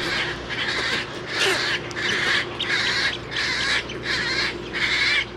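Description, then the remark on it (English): Harsh, raspy calls from a nesting rookery of herons, egrets, roseate spoonbills and wood storks repeat in a steady rhythm, roughly seven squawks in a row, loud over a low background hum of the colony. “it's also a major nesting area for herons, egrets, roseate spoonbills, and wood storks”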